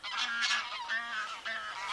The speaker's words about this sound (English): Four greylag geese flying over there. Very noisy.